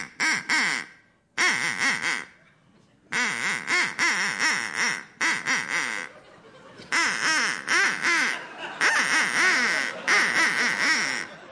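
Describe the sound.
A duck quacks out a Winston Churchill quotation in a series of loud bursts separated by short pauses, the harsh nasal calls running in rhythmic phrases like speech patterns, with no talking over them.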